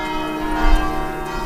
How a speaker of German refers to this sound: Als am Samstag auf dem römischen Hügel Aventin plötzlich die Glocken des Benediktinerkollegs St. Anselmo zu hören sind, ist klar, der älteste Mönchsorden des Abendlandes hat einen neuen Abtprimas.